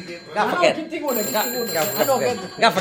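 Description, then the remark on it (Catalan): A telephone rings with a steady, high-pitched electronic trill that starts partway through and continues, partly buried under several people talking over one another. “On és el telèfon?”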